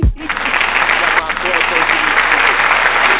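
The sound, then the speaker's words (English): A steady burst of applause for a woman's banana pudding, many hands clapping in a dense, continuous patter for a few seconds, with faint voices mixed underneath. “Applaud the banana pudding.”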